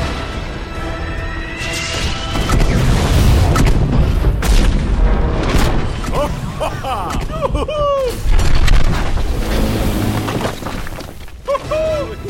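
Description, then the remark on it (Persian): Loud, continuous sci-fi laser blasts and booming explosions over a dense, rumbling roar, with bright zapping, sweeping tones bursting out repeatedly throughout. “ببین چه میکنه لیزر وقتی نقشه درست کار میکنه، کیف میکنه. آماده باش برد، قرار خیلی انفجاری برگردی به اوج.”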